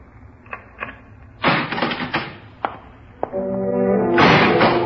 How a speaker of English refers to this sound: The cell was that dark. But when the door clanged shut behind me, I realized the irony of the situation.